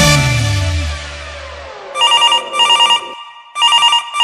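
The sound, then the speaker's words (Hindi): A telephone rings in repeated electronic bursts, three quick trilling pulses with short gaps, loud, following a fading low musical chord. “अरे आ गेली कहल बार बार फोन ना करो।”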